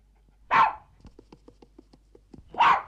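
A terrier barks twice, loudly, about two seconds apart, with a series of quieter soft yips or whimpers ticking rhythmically in between, as it paces and paws at a door to be let out into the bitter cold.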